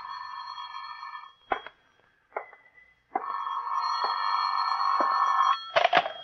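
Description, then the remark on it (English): A telephone rings in an office with a steady, buzzy tone that breaks off briefly a few times, punctuated by sharp clicks, with no voices. “Phone's ringing”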